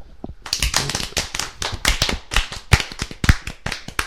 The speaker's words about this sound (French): D'accord, bah merci beaucoup. Alors une salve d'applaudissements.